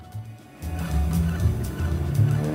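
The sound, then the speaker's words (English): Old car engines rumble steadily with a low, growling drone that swells louder after a brief lull, vintage cars speeding towards the Arc de Triomphe in Paris, 1930. No one speaks. “Vintage cars speeding towards the Arc de Triomphe.”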